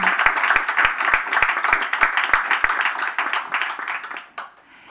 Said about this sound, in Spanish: Aplausos.